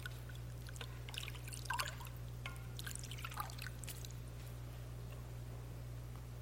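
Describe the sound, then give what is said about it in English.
Hands swish and splash in a bowl of water as Pilate washes his hands before the crowd, for a few seconds, with soft drips and trickles, then it goes quiet. Fairly faint, over a steady low hum, with no talking. “So he sent for a bowl of water.”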